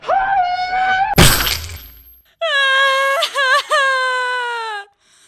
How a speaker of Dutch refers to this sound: Oh, nu is het oorlog. Jij hebt mijn ei kapot gemaakt.